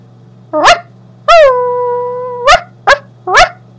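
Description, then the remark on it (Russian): A person imitates a dog: one sharp bark, a long drawn-out whining howl, then three quick yappy barks, loud and clear over a faint steady hum. “Собачка.”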